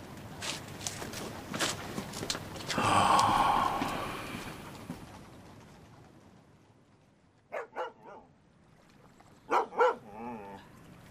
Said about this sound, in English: Oh, you stupid dog. What's the matter with you? You wake up the ducks.